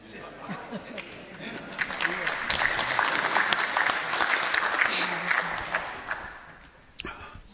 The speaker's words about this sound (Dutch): een applaus voor die prachtige bloemen.